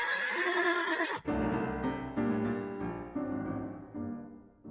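A huge, pitch-black horse, led by the reins at night, gives a loud whinny: a bright, shrill opening that drops into a long, shaky, pulsing neigh, fading gradually over several seconds with no voices.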